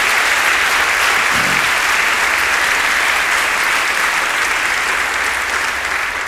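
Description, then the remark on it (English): A crowd applauds steadily and loudly for several seconds, a dense, even wash of clapping hands with no pauses and no voices rising above it. “I think we should give him a round of applause up there.”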